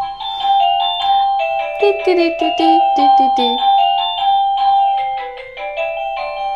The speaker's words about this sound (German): Jetzt klingelt er nochmal.